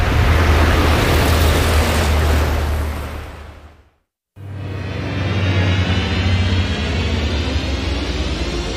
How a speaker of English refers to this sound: Ah, here comes the bus.